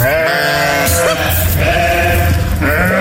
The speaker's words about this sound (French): Ça c'est des brebis qui en ont marre d'être confondues avec des chèvres.